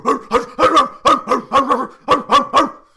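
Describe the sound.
Dogs bark in a rapid, steady series of about nine loud barks packed into a few seconds, with no voices.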